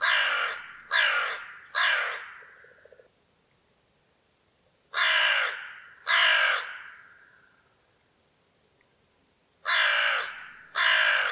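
A hooded crow caws in gruff, guttural, throaty bursts, loud, calling in groups of two or three harsh notes separated by short pauses, with no other sounds around it.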